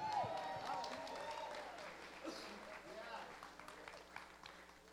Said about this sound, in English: What kind of life has he given us? Abundant life. Amen. Now you can cheer for that.